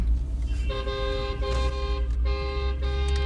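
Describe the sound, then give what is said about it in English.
Busy road traffic while driving through Shanghai, China, with a steady low engine rumble, punctuated by repeated blaring car horns, several long honks in quick succession, loud. “I feel like it's like a car whirlpool.”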